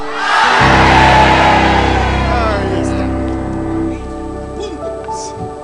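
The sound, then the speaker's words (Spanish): A crowd bursts into loud, joyful shouting and cheering, a dense roar of many voices that holds strong for a few seconds before gradually fading into scattered calls. “¡Grito de júbilo!”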